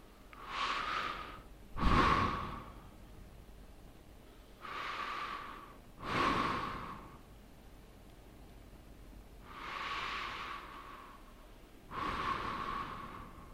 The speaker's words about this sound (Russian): Сделайте несколько глубоких дыханий.